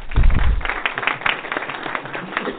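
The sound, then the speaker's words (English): A short burst of applause, dense and crackly, starting with a heavier thump of low rumble and then continuing as a steady, moderately loud patter of clapping with no voices. “I generally don't like applause, but we didn't really have another opportunity to do that.”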